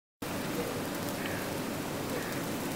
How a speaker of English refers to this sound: Now you can hear the oil start to sizzle.